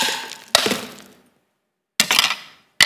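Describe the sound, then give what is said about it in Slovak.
A ceramic plate shatters with a sharp, bright crash, followed by two more smashing impacts with scattering shards, each loud, separated by a moment of silence. “Tak, ako sa pokazí takýto tanier, ako je svet. A keď príde hriech a to ľudské rozhodnutie zhrešiť, tak sa rozbije.”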